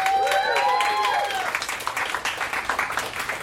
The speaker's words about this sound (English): So pick a favorite with your applause, starting from …, ….